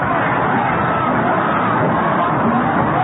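A baseball crowd applauds as batter Hadley comes up in the third inning, a loud, steady wash of clapping mixed with murmuring voices that holds evenly for about three seconds without a break.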